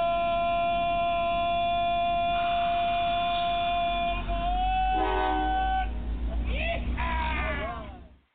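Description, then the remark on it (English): A loud train horn blares in long, steady chords over a low rumbling engine, shifting pitch midway before ending in a few wavering, bending whistle blasts that cut off abruptly. “There you go. We're on the train, man. All right. On the train. All aboard.”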